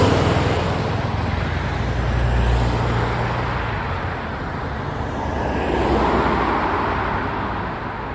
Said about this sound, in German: Und jetzt mal im Vergleich zum Straßenverkehr.